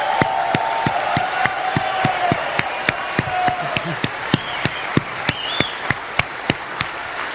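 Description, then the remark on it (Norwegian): An audience at a conference applauds and cheers for a group of bikers, its clapping falling into a steady, even rhythm, with a whistle and shouted whoops rising above the crowd. “A big round of applause for our bikers.”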